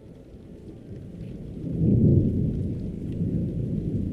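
Low rumbling thunder swells midway through a steady wash of rain, the storm building to a deep roll around two seconds before settling back into continuous rainfall.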